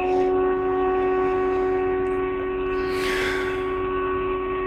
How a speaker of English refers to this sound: What are those? Are those storm sirens? I think so.